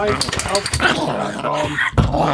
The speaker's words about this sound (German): Das ist unser kleiner Mops.